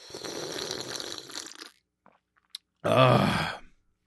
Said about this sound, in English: Let me take a drink of water here real quick. I just got a sip. Sorry for the ASMR here.